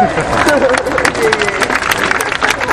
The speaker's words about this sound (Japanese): あ、大きな拍手、イエーイ。